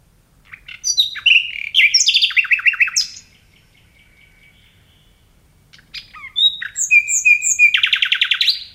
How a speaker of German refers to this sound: Jetzt erhoffe ich mir von Ihnen, dass Sie als Biologin Nachtigallisch in Deutsch übersetzen können, uns also vielleicht sagen können, was diese Nachtigall hier per Gesang mitzuteilen hat.